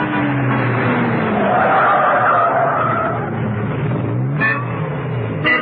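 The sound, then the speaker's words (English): The tires of Steed's car screech loudly in a long, wavering skid as he drives round some catchments, then the vehicle lurches to an abrupt halt, with a couple of short squeals and rattles at the end. “Back in the car, Steed continued to drive round some catchments. He didn't get very far.”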